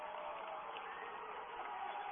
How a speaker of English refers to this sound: And we're getting a timeout by Graceland. And what this is doing, you hear the crowd.